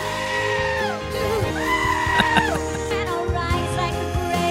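A dense pop song plays loudly, with warbling, bleat-like goat cries cut in over the melody, rising and wavering in place of the sung vocal line.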